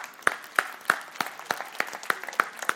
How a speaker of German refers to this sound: Applaus, Applaus, Applaus, Applaus, Applaus.